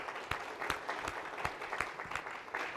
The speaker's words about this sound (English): And let's give a big round of applause to the people that helped set up the conference. Most of them are in the back here. Thank you, guys.